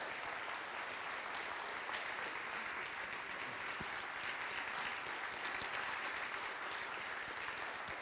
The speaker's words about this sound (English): So why don't we just give Colin and Anne a really big round of applause, and thank you very much.